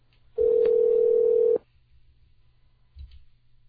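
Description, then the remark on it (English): A loud, steady dial tone after a Skype call disconnects hums for just over a second and then cuts off, followed by near silence and a faint click. “Disconnected.”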